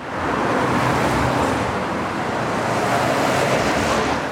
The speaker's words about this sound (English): But on the Isle of Palms this past weekend, the beach near Charleston was so busy, traffic was slammed.